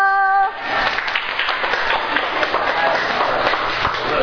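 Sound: group clapping hands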